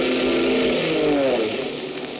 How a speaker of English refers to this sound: Hey, listen, a plane. Where is it? My eyes. Everything's a little blurry. Oh, yeah, there it is. Look. A plane. It's coming this way. They see us. It's an army plane.